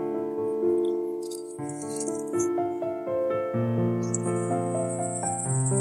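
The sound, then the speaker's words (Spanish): A snake's dry, sustained rattling buzz comes and goes over a layer of tonal background music, growing steady and prominent in the second half. “Una serpiente. Tienes una serpiente.”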